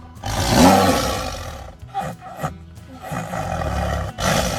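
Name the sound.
tiger roar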